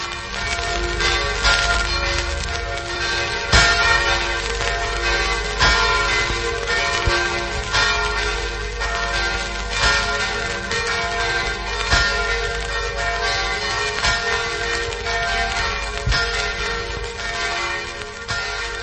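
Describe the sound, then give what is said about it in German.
Church bells that have since vanished ring continuously in a dense, overlapping peal, their sustained metallic tones layering into a rich, steady wash of sound with no voices present. “Über den Klang der verschwundenen Kirchenglocken”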